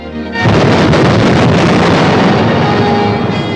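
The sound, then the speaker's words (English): A low, steady engine hum of a ship steaming across a calm sea is cut off by a sudden, loud explosion, followed by a heavy, roaring rumble that holds strong for several seconds. “Steaming across a calm sea suddenly explodes.”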